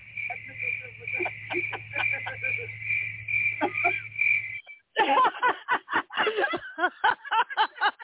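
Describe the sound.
A steady, high-pitched chirring of crickets plays for a few seconds over a low hum, then cuts off abruptly as people start talking loudly.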